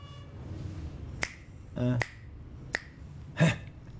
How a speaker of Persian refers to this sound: اون بشکن دخترونه است، بشکن مردونه بزن.